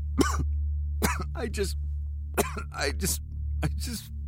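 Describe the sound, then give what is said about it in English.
A run of harsh coughs, several sharp bursts in quick clusters with brief pauses between, over a steady low electrical hum. “More coughing.”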